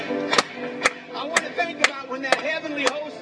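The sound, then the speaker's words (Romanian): Six sharp hand claps for Jesus during a Christian worship song, in a steady, even rhythm, about two per second, ring out over a continuous background of singing voices. “Hai să o batem de palme încă o dată pentru el.”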